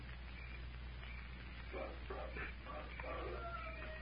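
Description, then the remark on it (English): A faint wolf howl rises out of a steady background hiss, with a thin drawn-out howling tone emerging near the end. No one speaks. “There it is. Wolf howl.”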